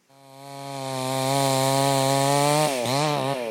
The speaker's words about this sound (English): In a light rain, among jumbled spent Russian artillery shells, a Ukrainian man saws away at a half-burnt tree, its top a fray of splintered wood.